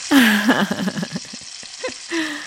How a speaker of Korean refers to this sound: 아이고, 전부 친 소리 한번 들어보실래요? 진짜 빗소리 같죠? 오! 기름이 지글지글.